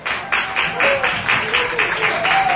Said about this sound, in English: They won again, so they're clapping. Yeah, they won again.